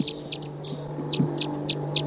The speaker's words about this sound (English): Sounds like those wild birds are coming back. That was 258's Z. Stop. That's 258. So recording the wild birds here.